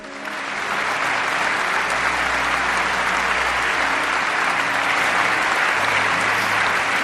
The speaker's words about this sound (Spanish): Han sido 16 años de mandato y el Parlamento alemán, el Bundestag, la ha despedido en pie con una larga ovación.